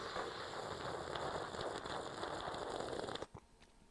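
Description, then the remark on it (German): A long, loud slurping sip from a coffee cup, a dense hissing, crackly rush of air and liquid for about three seconds that cuts off abruptly, with no talking. “Achtung, dramatischer Zug aus der Kaffeetasse, Achtung.”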